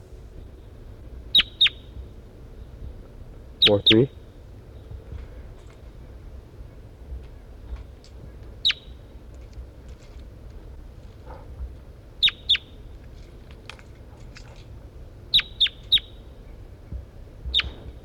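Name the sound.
bird calls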